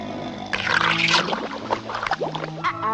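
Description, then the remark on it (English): Pluto, the cartoon dog, snores on a beach as lapping waves bubble in and out of his mouth, a wet, rumbling, gurgling sputter that swells and fades, with no talking. “Donald balls his fist at the horse, but his attention wavers to the beach, where lapping waves bubble in and out of Pluto's mouth as the dog snores away.”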